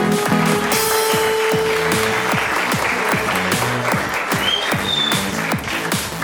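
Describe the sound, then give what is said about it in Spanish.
An audience applauds Tommy Gluten steadily, a dense wash of many hands clapping at a fairly loud, even level throughout, with a few faint tonal pings and a murmur of voices underneath. “Un aplauso para Tommy Gluten.”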